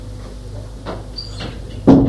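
A bedroom door opens with a few soft clicks and shuffles as someone enters, then a sharper, louder thud and brief creak near the end. No one speaks.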